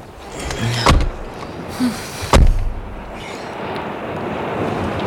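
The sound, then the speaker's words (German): Steady, rushing wind by open water as a storm builds and dusk falls, with a constant wash of surf-like noise, punctuated by two sharp, loud gusts buffeting the microphone. No one speaks. “Es wird sonst so stürmisch, sodass wir nicht mehr zur Insel kommen.”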